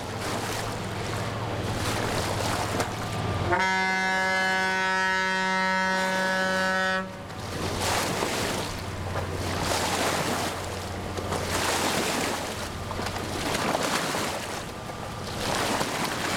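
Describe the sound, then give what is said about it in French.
A large 38.5-metre river barge goes by with a low engine drone, sounding one long, loud horn blast while its wake sends waves washing and splashing steadily against the bank. “Il n'y a pas que de la péniche fraissinée. Ça, c'est du 38,5 m.”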